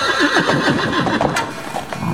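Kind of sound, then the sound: animal, thundering horse hoofbeats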